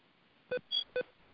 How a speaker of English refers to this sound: There's some beeping going on. Can someone please mute their line?